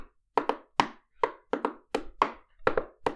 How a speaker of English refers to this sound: And she fluttered up to the door and gave it a couple knocks.